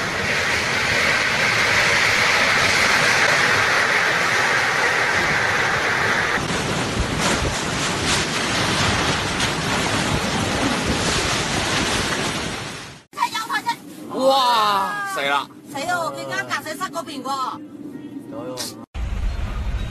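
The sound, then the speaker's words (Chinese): A loud, steady roar of typhoon wind and heavy rain, filmed during yesterday's typhoon, fills the first thirteen seconds with broad, rushing noise. It then cuts to quieter wind where people talk excitedly. “那么在开始进入今天的学习之前，我想给你们放一段视频，看看昨天的台风到底有多么严重。”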